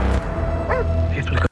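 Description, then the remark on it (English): A couple of short, high yips from a dog, rising over a steady, loud background hum. The barks are brief and come in quick bursts before the sound cuts off abruptly. “Oh, he's got a dog.”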